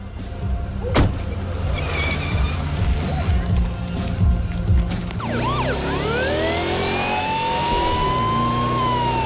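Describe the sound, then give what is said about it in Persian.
Steady road and engine rumble from a vehicle driving fast through a city, then its emergency siren is switched on partway through, its loud wail sweeping up and down over the driving noise. “میدونی من خودم عاشق اینم که آژیر رو روشن کنم و با سرعت توی شهر رانندگی کنم، ولی داریم خیلی سریع میریم.”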